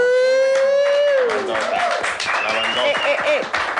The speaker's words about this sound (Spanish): Un aplauso para todo el equipo de Reactor.